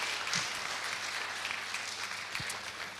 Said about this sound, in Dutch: En misschien kunnen we even een applaus geven.